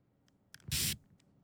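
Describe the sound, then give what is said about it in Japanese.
A single short spray burst of cleaning liquid, a bright hissing whoosh lasting about a quarter second, fairly loud, preceded by a couple of faint clicks from the nozzle. “それでは、スプレーを開始しますね。”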